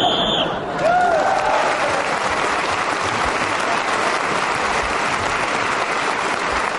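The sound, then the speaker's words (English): A brief, high whistle signalling the end of a round sounds at the very start, quickly swallowed by loud, steady applause from an audience that carries on to the end. “So once again, Clement Freud got his joke in just as the whistle went, the payoff to the joke, and which is very shrewd, very clever, and also gets a point for speaking as the whistle went.”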